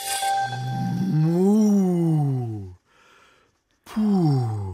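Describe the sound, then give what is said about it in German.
A sweating cow suffering in the summer heat in Japan lets out a long, loud, low groan that rises and falls in pitch, then after a brief quiet pause starts a second heavy moan. “Das ist eine schwitzende Kuh und die schwitzt in Japan.”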